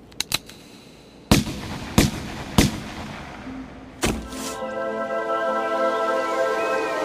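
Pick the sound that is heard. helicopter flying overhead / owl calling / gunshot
gunshot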